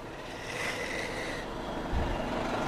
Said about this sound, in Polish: Autobus podjeżdża.